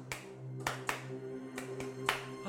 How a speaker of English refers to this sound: Claps. Claps.